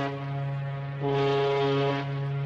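An ocean liner's horn blares in a steady, deep tone as the liner leaves Tangier, Morocco, for France in 1962, swelling louder partway through as a second higher note joins, then easing back for the final half second; no voices.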